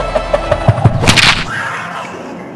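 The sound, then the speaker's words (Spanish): A sling whirls in a quick series of rhythmic whooshes, then lets loose a loud, sharp crack as the shot strikes a puma in the neck, ringing out and fading into a brief hissing tail. “De un solo disparo en el cuello le dio, que sonó como un trueno.”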